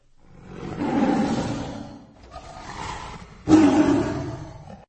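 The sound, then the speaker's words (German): A tiger roars from far away as the sun is about to set, a long, rumbling bellow, then a quieter growl follows and a second forceful roar bursts out, with no voices or other sounds around it. “Die Sonne wollte schon untergehen, da hörte man von weitem das Brüllen eines Tigers.”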